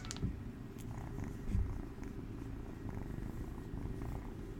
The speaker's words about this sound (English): I want you to hear her purring because she purrs really loud.